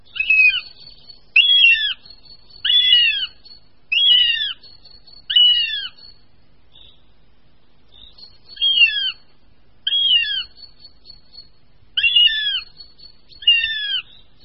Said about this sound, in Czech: se však ještě asi měsíc o mláďata starají, což je doprovázeno hlasitým žadoněním mladých jestřábů a v tuto dobu je jestřábí rodina v přírodě nejnápadnější, což bude každému jistě zřejmé, poslechneme-li si pronikavé hlasy hladových mladých jestřábů.